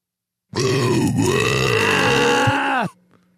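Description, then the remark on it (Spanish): A single long, loud burp, held for a couple of seconds with a rough, wavering pitch, ending abruptly, with no talking over it. “primero que nada, el eructo original.”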